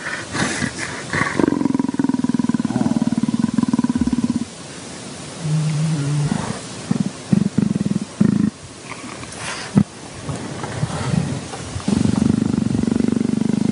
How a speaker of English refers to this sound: So they're stroking this cat, and he's so comfortable. This is the way a leopard sounds when he is relaxed.